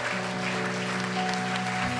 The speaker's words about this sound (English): Thank you. Thank you. Guys, let's give applause. Let's give applause. This is amazing.